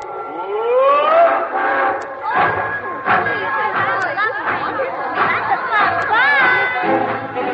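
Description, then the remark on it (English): A group of voices mimics a departing train together, rising whistle-like wails and chugging calls layered over lively chatter, loud for several seconds. “This train for Let's Pretend, Rapunzel, and points beyond the moon.”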